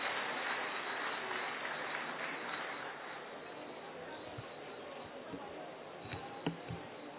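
A crowd applauds steadily to welcome Nepal Member of Parliament Bhimsen Das Pradhan, a dense wash of clapping that holds fairly even for several seconds and tapers slightly, with a few sharper isolated claps standing out near the end.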